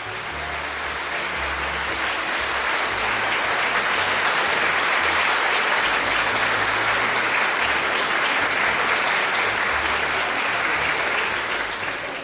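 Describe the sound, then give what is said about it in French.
Sustained, dense applause from a large theatre audience after a performance of the comedy Le Mariage de Figaro, with 12 consecutive curtain calls, a steady roar of many hands clapping at once that never lets up or fades. “Les applaudissements n'en finissent pas.”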